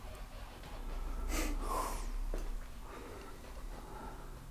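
sneeze

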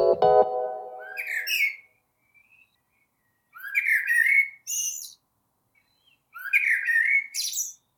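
birdsong

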